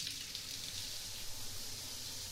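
Steady, warm shower water pours continuously onto a soft towel covering a lying person's whole body, a hissing, even spray that holds without a break, quiet, with no voices.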